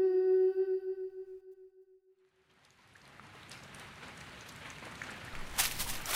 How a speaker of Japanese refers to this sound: そうだな、雨ばかり降っているからなんとなく気が晴れないよ。